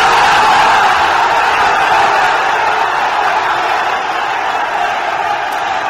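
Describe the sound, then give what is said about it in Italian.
A sustained, loud roar from a large cheering crowd, a dense wash of voices and whoops that holds steady for the whole stretch before easing slightly toward the end. “Il boato della folla, sì, mi, sì, dà, sì, ragione, sì, mi dà ragione.”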